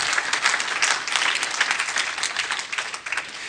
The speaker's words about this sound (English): That deserves a round of applause, I would think. Right?